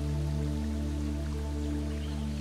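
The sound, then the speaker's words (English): Steady trickling, splashing water of a forest creek, a continuous bright hiss with soft droplet detail, laid over a constant low humming drone with no speech. “Stay somewhere in the forest, but hearing a creak of water.”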